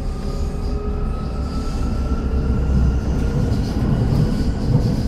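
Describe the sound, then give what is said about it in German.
A steady, loud rumble inside a moving train, with tonal whining lines from the electric drive running up and down humming beneath the rolling noise and faint high squeals above; no one speaks. “Hier im Zug können das Dialogfetzen von Mitreisenden sein oder der hoch- und runterfahrende Elektroantrieb.”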